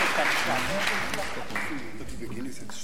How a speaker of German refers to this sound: Da einfach mal Applaus.